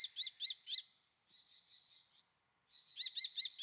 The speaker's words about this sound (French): Et là, on entend un cri là, qui vient des hauteurs. C'est un rapace ? Ouais, là, il y a un faucon cresserelle. C'est un petit faucon qui est assez commun aussi.